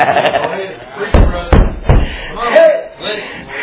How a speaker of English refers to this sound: And I'll knock on his door and see what he can do.